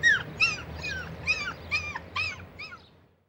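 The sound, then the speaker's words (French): A dog named Zorro gives a rapid series of about seven short, high yelping barks mixed with whiny whimpers, moderately loud, fading out at the end over a low background hum. “Et j'ai aussi un chien.”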